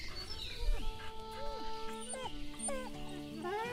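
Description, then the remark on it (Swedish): A frightened dog, Sigge, whimpers, a string of high, wavering whines that bend up and down in pitch, repeating anxiously over a few seconds with no one talking; he is scared of a plastic bag. “Du är ju världens räddaste hund."”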